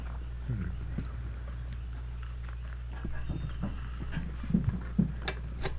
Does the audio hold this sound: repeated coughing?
no